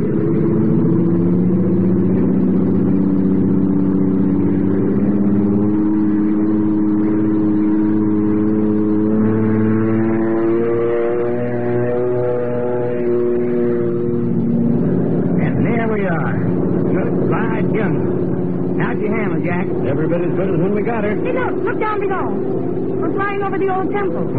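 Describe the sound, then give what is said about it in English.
A small airplane engine drones steadily, then revs up with its pitch climbing for takeoff. Voices then talk over the continuing engine hum. “Running like a sewing machine.”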